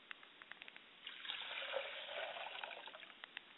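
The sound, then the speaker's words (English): Liquid is poured out in a steady, hissing trickle lasting over a second, framed by scattered sharp drips before and after. It is fairly quiet, with no voices. The liquid is poured as a libation to a father's spirit in a ritual. “I pour a libation to my father's spirit, and I say, Ashe.”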